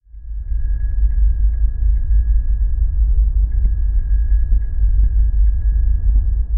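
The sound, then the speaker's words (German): A bicycle bell as it might sound on Mars: a thin, faint, muffled ringing tone with small repeated pings, nearly buried under a loud, steady low rumble throughout. “Und so lange kannst du ganz entspannt lauschen, wie diese Fahrradklingel dort klingen würde.”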